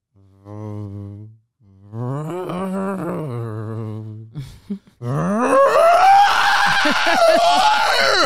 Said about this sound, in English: Imagine waking up to that at 2:30 a.m. where it sounds like somebody is literally screaming in your ear. That's what it's because like. the windows are good, but the wind is so powerful that it breaks through the seal and causes this whistling